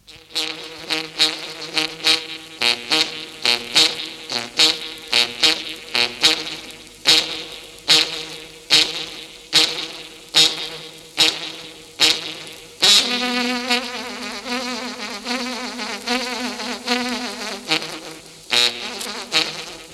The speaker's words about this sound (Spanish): La caña es un instrumento formado con un cuero o cuerno de vaca ajustado a una larga caña. Oigan ustedes sus tonos.